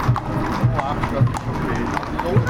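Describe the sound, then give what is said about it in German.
Steady clip-clop of horses' hooves on hard ground as riders set off in the procession of the equestrian games in the Gschwendt district of Nesselwang, several animals walking together at an even pace, with a murmur of crowd chatter and voices mixed in around them. “Jetzt setzen sich die Reiter in Bewegung.”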